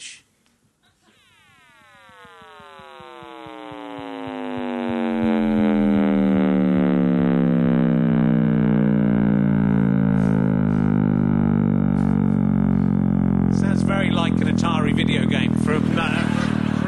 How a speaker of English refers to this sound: We have got this. We've got the sound of the Big Bang. Do you want to listen to it?